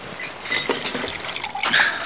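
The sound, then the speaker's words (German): Liquid is poured into a glass, a steady splashing trickle with bright ringing tones rising as the glass fills, with a faint clink near the end. “Ich hole uns was zu trinken.”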